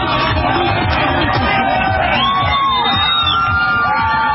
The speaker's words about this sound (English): The whole band sitting in the back of the pickup truck clapping and dancing around. You can hear the crowd gathering.